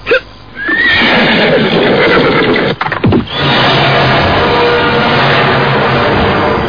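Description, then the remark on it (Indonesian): A horse neighs and whinnies loudly as riders dismount, a long rough, noisy call that breaks off briefly midway before carrying on. No one speaks. “Jangan enak-enak turun di atas kuda seperti lagaknya seorang pangeran.”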